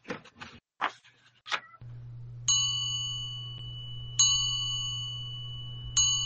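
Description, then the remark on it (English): A bell strikes three times at a slow, steady pace, each clear ding ringing out and sustaining over a low, constant hum, after a few brief clattering knocks at the start. “Well, the bell seems to have calmed in then a little there.”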